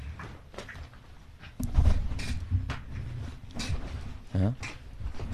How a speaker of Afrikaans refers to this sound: Because that's the best chair in the whole studio. Ja, is and we can't sit on it because it makes noises. Ons moet lubricant op die stoel maak.